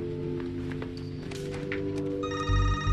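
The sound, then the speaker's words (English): Tom Lennox's cell phone starts ringing near the end with a call from Sandra Palmer transferred to it, a bright electronic ringtone over a steady low hum, with scattered footsteps and small knocks beforehand. “Could you transfer that call to my cell phone, please?”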